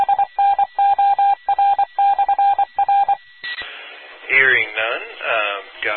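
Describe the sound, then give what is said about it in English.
A steady, single-pitched tone on an amateur radio net keys on and off in quick Morse code dots and dashes for about three seconds, then gives way to static and a distorted voice over the air. “with the Cleveland County Aries net, by the way, for the Morse there.”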